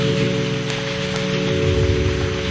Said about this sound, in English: Church, let's clap our hands for the Lord Jesus Christ. Clap your hands for Jesus.